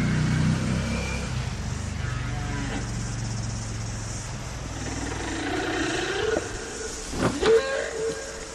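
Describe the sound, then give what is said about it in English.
A small motor scooter buzzes past, its engine droning steadily before a rising whine and a brief louder surge near the end as it goes by, with a faint bird chirp in the background. “So there goes the little motor scooter.”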